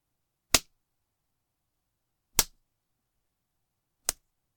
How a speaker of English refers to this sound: Adding a few more slaps to each of those places.